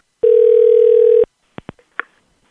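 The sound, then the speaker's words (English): After the other party hangs up, a loud, steady telephone tone holds one mid pitch for about a second, then cuts off abruptly and is followed by three or four sharp, quick clicks from the line. “And she hung up.”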